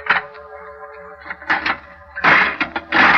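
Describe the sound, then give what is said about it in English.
A heavy old tomb door creaks open slowly, a long, groaning, squealing tone broken by rough scraping grinds that grow louder toward the end, with no voices. “I opened the door.”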